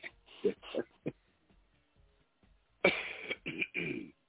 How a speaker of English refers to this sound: I will not cough during your next segment. I apologize for that.